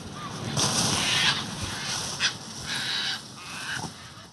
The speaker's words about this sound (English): And he uses the example of like bird recordings as one that he really loves, but other people find really creepy.